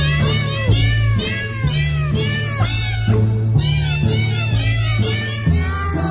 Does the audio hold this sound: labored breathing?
no